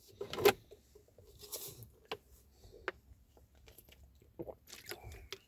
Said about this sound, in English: I'm drinking some water. I had to put the bottle up against my, to drink the water, I had to put the bottle right there against my lips and drink it.